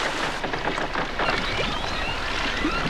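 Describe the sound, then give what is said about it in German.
A boat coming ashore and being tied up at dusk in fog: steady splashing and lapping water with scattered knocks and scrapes, fairly loud and continuous, with no voices. “Sie legten an, verteuten das Boot und gingen zum Lagerfeuer hinüber, wo sich die anderen versammelt hatten.”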